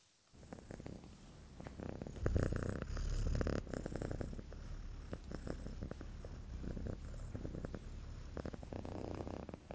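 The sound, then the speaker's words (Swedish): A cat purrs in a steady, continuous low rumble, its rhythmic pulses rising and falling evenly throughout with no other sounds. “har nämligen fört in honom på forskning om katters spinnande”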